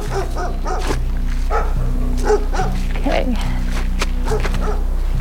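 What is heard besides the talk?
dogs barking and whimpering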